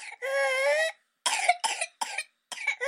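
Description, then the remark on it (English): A long, high-pitched whooping gasp for breath, then a rapid run of four or five harsh coughs in quick succession, with no talking: a whooping cough (pertussis) coughing fit. “Search for videos of the condition on YouTube, and you'll immediately understand how the disease got its other name, whooping cough.”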